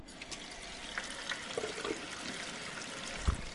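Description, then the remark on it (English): Water runs steadily from a kitchen tap into a sample bottle for testing drinking water for lead, a continuous hissing splash that fills it for a few seconds, moderately loud, ending with a low knock. “So I'm going to turn on my water.”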